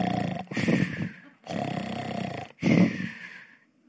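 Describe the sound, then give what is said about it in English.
A voice imitates men snoring in a camp among tent poles: three loud, rasping, drawn-out snores, each separated by a brief pause, the last one trailing off. “Nervous guy creeping through all the tent poles, all these guys snoring.”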